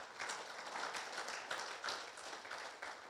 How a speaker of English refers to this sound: And a special shout out to our veterans, because this past weekend was Veterans Day. Thank you so much for your service. We can clap for them.